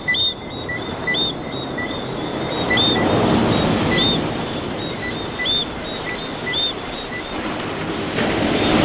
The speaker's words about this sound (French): le bruit de la mer permanent qui ne s'arrête jamais comme un bruit obsédant, pénible, celui des vagues